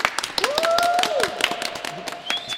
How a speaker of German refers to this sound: Österreich ist frei, sagte der Außenminister Figl nach der Unterzeichnung des Staatsvertrages im Schloss Belvedere. Das Volk jubelte.